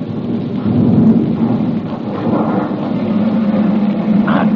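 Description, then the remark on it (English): A low, continuous engine growl of three ambulances carrying wounded as they move unsteadily forward rumbles steadily throughout, thick and throaty with a rough hiss riding on top and slight surges in loudness, with no voices. “Three ambulances freighted with wounded growl unsteadily forward.”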